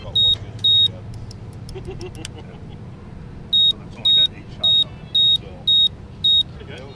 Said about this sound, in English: Now, all those wires get attached to a large panel of switches that pyrotechs use to fire the display. Okay, what are we doing right now? Well, he's going to power up, then he'll go into test mode. Now, all he'll get for a complete circuit is a beep.